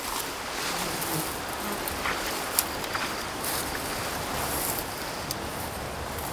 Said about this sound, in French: Beaucoup de rafales de vent.